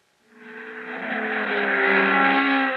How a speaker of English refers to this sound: You're hearing the sound of power, the sound of the new breed of hot, high-performance engines. They're super in performance, but they need super lubrication.